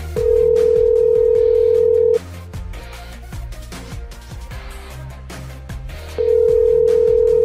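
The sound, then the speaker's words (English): A telephone ringback tone sounds two long, steady, loud rings separated by a pause of about four seconds, like a call waiting to be answered, with quiet music playing underneath. “How many times is it going to ring?”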